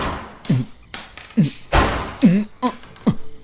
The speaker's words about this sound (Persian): لعنتی. لعنتی. بهت گفتم تکون نخور. تو بهم شلیک کردی. بهم شلیک کردی عوضه.